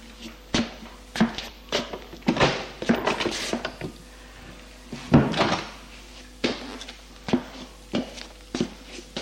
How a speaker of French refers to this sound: Puis, se trouve une autre porte qu'ils ouvrent.